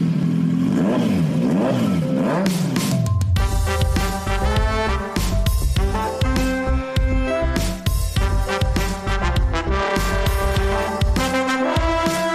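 A loud intro jingle opens with a motor revving up and down, then breaks into an upbeat band tune with a driving beat and bright chords, with no talking.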